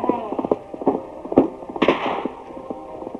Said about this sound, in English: Then from ambush, a shot rang across the plain.